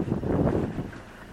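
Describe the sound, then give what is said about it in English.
A safari vehicle's engine rumbles low and steady as it pulls away from a water hole in the Serengeti, its sound fading slightly, with wind buffeting the microphone throughout. “And just meters away, as we pull the car out, the vehicle, we see a male lion hiding in the grasses.”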